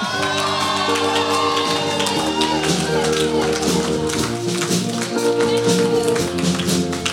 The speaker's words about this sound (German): Und das war schon mal so ein Applaus zum Warmwerden. Das könnt ihr schon merken und gleich geben wir nochmal einen richtigen Applaus.